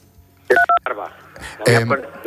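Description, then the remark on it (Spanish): Two short, clear phone keypad beeps in quick succession, each a steady dual tone, made by telephone buttons accidentally touched with the face or fingers during a phone call, followed by people talking. “cuidado con al hablar, porque estamos tocando, creo que con la cara o con los dedos, algún botoncillo del teléfono y suena un pitido de vez en cuando.”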